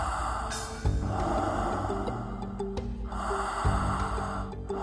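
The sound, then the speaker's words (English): Slow, deep breaths drawn in and let out, fairly loud, with long airy inhales and exhales repeating in a steady cycle and no talking. “Widening your experience and your awareness with each cycle. Knowing that it only takes 10 breaths to change your point of view, and you're well on your way now.”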